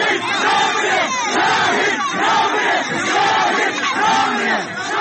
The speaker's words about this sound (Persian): حالا کاروان او راهی شده و مردم هستند که فریاد میزنند شهید نمیمیرد.